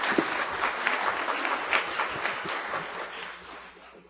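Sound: audience applause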